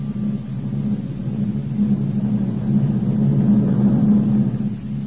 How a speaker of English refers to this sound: I was tired, and the steady drone of the four powerful engines lulled me to sleep in no time.